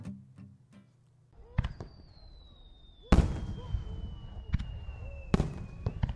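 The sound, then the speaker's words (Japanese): Summer fireworks burst in a loose series of sharp booms, with a whistling rocket streak descending in pitch between explosions, followed by crackling and rumbling echoes; moderately loud and outdoors. “花火最高、ビールがうまい。”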